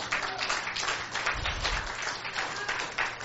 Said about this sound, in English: Somebody should clap your hand to Jesus.